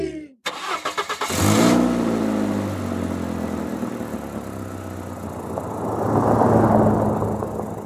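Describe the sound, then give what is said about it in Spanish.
A car starter cranks in a quick series of pulses before the engine catches and roars to life, then settles into a steady hum and swells again as it accelerates away. “Bueno, chicos, ya pueden subir al auto.”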